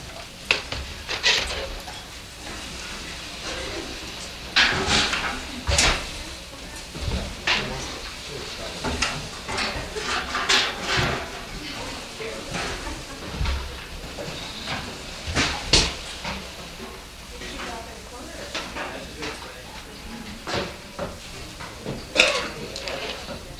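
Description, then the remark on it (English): Chairs being dragged and knocked into place as they are pushed back against the wall and into the corner to make room to move, with repeated irregular scrapes, bumps and clatters, while faint murmuring voices sit underneath. “So would you first take a moment and just get as many chairs back against the wall and back in the corner so we've got some room to move here.”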